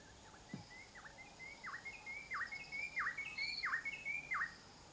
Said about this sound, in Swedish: Man hyr ut lärarfåglar och i den klara morgonluften fylls atmosfären av fågelsång.